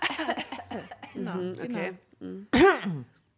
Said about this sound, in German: Du, man soll sie an der Sprechtechnik, man soll sie nicht räuspern, man soll lieber husten stattdessen.